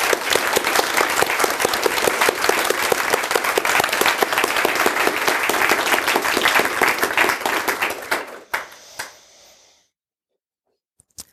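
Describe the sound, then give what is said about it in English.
A crowd applauds for BleepTrack, a supporter of the Wikimedia project and Wikidata, with dense, loud clapping for about eight seconds, then it thins to a few scattered claps and fades into silence. “So if she watches this stream later, please, a lot of applause for BleepTrack.”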